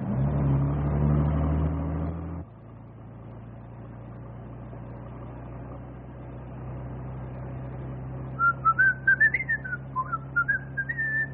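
human body sound, person whistling a tune

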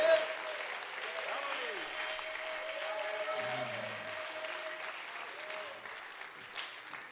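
crowd, audience clapping hands

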